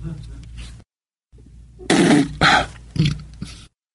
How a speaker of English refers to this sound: Burp. And he belches a lot.